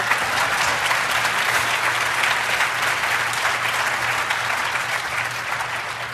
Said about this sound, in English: Go ahead, keep, I love applause. Go ahead.